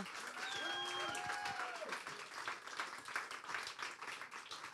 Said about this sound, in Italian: Grazie. E vi chiedo di tenere questo applauso per il prossimo comico, che è un uomo, mio Dio.